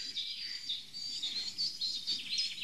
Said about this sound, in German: Spechti. Ja, schön Spechti. So. Ja. Das war nicht. Hat der überhaupt eine Singart? Oder hat man nur das Klopfen? Nein, die können auch so schreien.